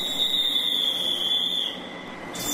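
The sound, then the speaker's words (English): Train doors closing on an overnight train to Budapest, Hungary, departing Berlin Hauptbahnhof: a steady high-pitched warning tone rings over rail-car rumble, then drops away before a short burst of hissing noise at the end. No one speaks. “The doors close and we're on our way.”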